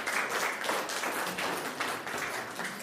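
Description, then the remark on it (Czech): A crowd applauds steadily at a public recording of the Czech Radio programme Na cestách s Petrem Voldánem in Roudnice u Hradce Králové, marking 640 years since the town's first mention. Many hands clap in a dense, continuous patter that holds at an even, moderately loud level throughout. “1384 poprvé zmínili Roudnici u Hradce Králové, což si podle mě zaslouží také potlesk. Tak si můžete zatleskat.”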